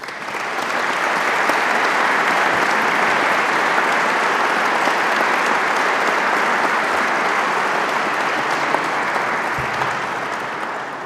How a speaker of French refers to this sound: Je demande à ses lauréats de bien vouloir se lever et vous prie de les applaudir.